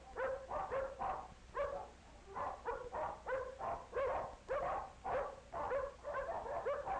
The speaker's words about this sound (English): It sounds as though there are many dogs nearby. Maybe Tippy can find a friend in here.